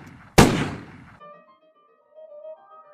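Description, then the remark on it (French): A single sharp, loud gunshot as two men, aiming their weapons at each other, pull the trigger; it bursts out and rings off in a roughly one-second decaying tail, then gives way to a quiet, sustained tonal drone. “tourna les deux hommes face à face, leur fit tendre le bras, pointer leur arme en direction de leur camarade, puis appuyer sur la détente.”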